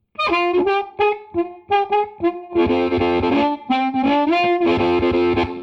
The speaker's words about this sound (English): This is a model of a low wattage, junky amplifier for guitarists that was sold at Sears in the 1960s. And it is now prized by harmonica players because it is so rough and tough. Thank you. Here's the same amp model with a large room reverb.